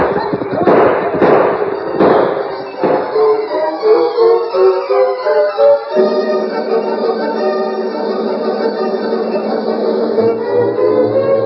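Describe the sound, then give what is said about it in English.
A quick volley of four or five sharp, loud gunshots rings out at the start of an attack on an army fort, then gives way to a steady, sustained tonal swell that carries on to the end. “Bolter, start shooting.”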